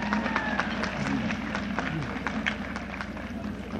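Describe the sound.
An audience applauds steadily for a few seconds, a dense wash of many hands clapping at once, with a few voices calling out faintly underneath.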